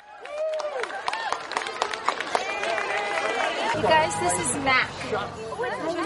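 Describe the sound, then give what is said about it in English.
An outdoor crowd in New York's Riverside Park cheers and chatters excitedly at 24 goats brought in to eat invasive plants, with overlapping voices, whoops and scattered clapping swelling partway through, lively throughout as people try to snap pictures. “There's a fenced-off path, park rangers here and there, people cheering and trying to snap a picture.”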